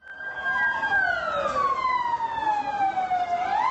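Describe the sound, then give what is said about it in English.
A loud ambulance siren wails in Gaziantep as ambulances rush people wounded in a wedding bombing to hospitals; its pitch slides slowly downward before sweeping back up, with steady road noise underneath. “All through Saturday night, ambulances rushed the wounded to hospitals across Gaziantep.”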